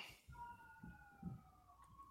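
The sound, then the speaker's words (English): An ambulance siren wails steadily and very loudly as it goes by, its sustained tone drifting slightly in pitch over a low rumble of traffic. “Ambulance going by, so I had to mute there.”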